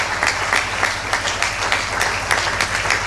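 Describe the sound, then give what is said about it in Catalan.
Sustained, loud applause from a crowd, a dense wash of many hands clapping at once with scattered sharper claps standing out, and no speech over it. “Jo repetiria l'aplaudiment, eh? Un fort aplaudiment perquè se'l mereixen, aquesta gent, se'l mereixen.”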